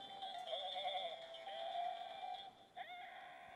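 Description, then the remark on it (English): A dancing toy fainting goat lets out a long, tinny electronic bleat, a steady wavering tone that briefly breaks off near the end before resuming, fairly quiet and heard on its own. “Oh, and she's like, I just thought you might need a fainting goat, and I was like, awesome.”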